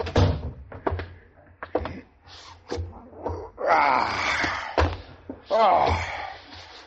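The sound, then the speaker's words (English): A door slams shut with a heavy thunk, followed by several more sharp knocks and bumps, with wavering, groan-like vocal sounds in between. “Close the door”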